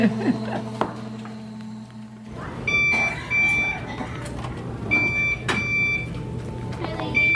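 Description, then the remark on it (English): Short high-pitched electronic beeps repeat at intervals, clear but not loud, over a busy background of low hum, clatter and indistinct voices. “What's that beeping noise?”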